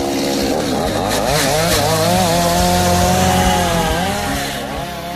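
A chainsaw engine runs continuously and loudly, its buzzing pitch wavering up and down as the throttle shifts, with no voices over it.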